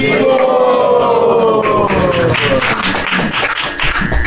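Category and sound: crowd, audience applause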